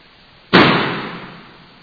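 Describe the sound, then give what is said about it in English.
A single loud explosion bursts out suddenly after a moment of quiet, then its broad rumble fades away gradually over the next second or so. No voices are heard. “I reduced the level so it should not clip with explosion.”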